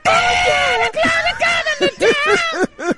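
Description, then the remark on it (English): A voice imitates a screaming singer with a long strained, harmonic-rich wail, then a run of short, loud yelping bursts, dry, with no other sounds. “He just screamed too much back then. Yeah, there's a bit of that. That's exactly what it sounded like.”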